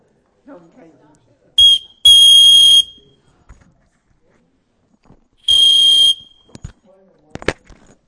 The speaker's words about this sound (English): And when those rules are broken and there's an infraction made, that arbitrator on the court, that official, has something in his hand or around his neck that he blows. What is it? What does he do when he blows that whistle?